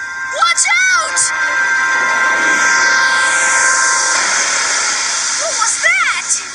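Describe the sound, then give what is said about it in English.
A loud, sustained rocket-launch roar of the Magic Bus blasting off into outer space fills the whole stretch, a broad hissing rumble with warbling, whistly squeals bursting in near the start and again at the end. “4, 3, 2, 1, blast off!”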